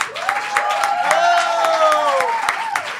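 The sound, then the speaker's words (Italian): A live audience applauds steadily for about three seconds as a stand-up comedian is called onstage, the dense clapping mixed with whoops and cheering voices rising above it, fairly loud throughout. “Fate un grandissimo spremuta applauso per Lenia.”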